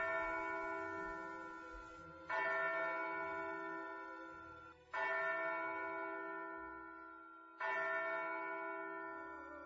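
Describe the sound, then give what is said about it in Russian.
A church bell tolls slowly and steadily, each deep ringing strike lingering and fading before the next one sounds, about every two and a half seconds, with no voices. “и мне почудилось, стихает там колокольный перезвон.”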